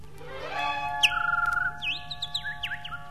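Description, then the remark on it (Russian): A bird-like whistle of air rushing past a fast-flying thrown stone: a rising, fluttering whistle followed by quick chirping sweeps over a steady low hum, with no talking. “Что это, как будто свистнула птица? Это воздух свистит. С такой быстротой летит камень.”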